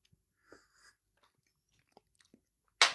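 Someone takes quiet sips from a glass: a few soft slurping and swallowing noises spread over a couple of seconds, ending with a sudden loud, breathy burst.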